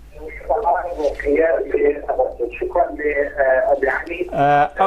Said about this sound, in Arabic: أوطي صوت التلفزيون واسمعنا من الهاتف، تفضل ولو بسرعة.